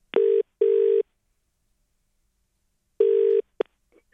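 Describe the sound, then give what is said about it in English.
A phone ringing on an outgoing call placed by radio breakfast hosts to a Channel 7 presenter: a steady double-burst ringback tone, two quick pulses, a long pause, then another pulse cut short by a click as the line is picked up. “This is what happened when we rang Tommy's phone.”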